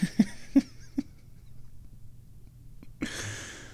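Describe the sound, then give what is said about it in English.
A cat named Pippa moves around, jumping and going into the bathroom: four quick soft taps and thumps in a row, a short quiet pause, then a rough, sustained rustling scuffle. No one speaks. “And she, instead of doing kitty stuff, she jumped and she went into the bathroom.”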